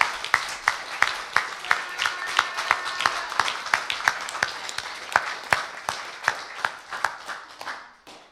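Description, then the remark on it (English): An audience applauds, a dense wash of many hands with sharp claps marking a steady rhythmic beat, holding strong for several seconds before quickly fading out. “Can we give him one more round of applause?”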